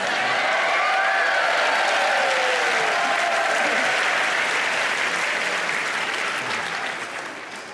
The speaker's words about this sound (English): Thank you. It really wasn't that long an applause. No, never mind.